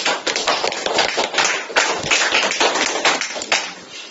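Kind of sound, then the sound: crowd, welcoming applause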